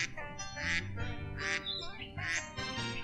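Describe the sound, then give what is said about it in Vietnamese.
A flock of ducks quacks in a steady, noisy chorus, with a few louder honking bursts about once a second standing out over the constant low chatter. “Con chạy đi lùa vịt đây”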